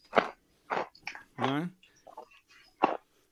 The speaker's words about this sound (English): the sound of … chewing